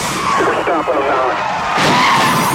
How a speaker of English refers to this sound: Both cruisers screech to a stop. The station wagon wedged between them.